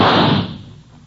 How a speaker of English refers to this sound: I knew I had time for only one shot.